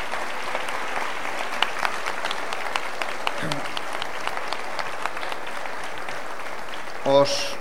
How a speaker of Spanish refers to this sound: y yo os pido a todos que le brindemos un fuertísimo aplauso.